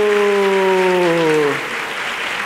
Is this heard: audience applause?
yes